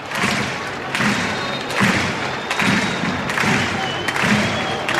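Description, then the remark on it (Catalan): A large stadium crowd at a Barça football match applauds in support of Barça's German player Gundogan as he prepares to cross the ball, a loud, continuous wash of clapping with a steady pulse of rhythmic thuds recurring about once a second underneath. “Aplaudiments de suport pel futbolista alemany del Barça.”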